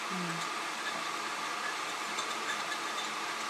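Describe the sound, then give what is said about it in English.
A Keurig single-serve coffee maker heats water with a steady, dense hiss and faint bubbling rumble that holds constant throughout, with a brief low hum at the start. “I mean, you can actually hear it boil the water in this one.”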